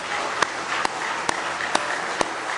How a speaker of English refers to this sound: A good hand clap of praise in the house of the Lord tonight.